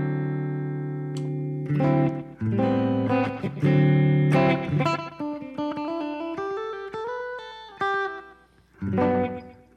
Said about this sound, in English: I don't know if I like that slapback echo. It's a bit much.